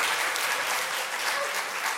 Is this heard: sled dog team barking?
no